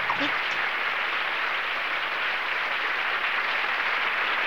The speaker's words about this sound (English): Eve applauds enthusiastically.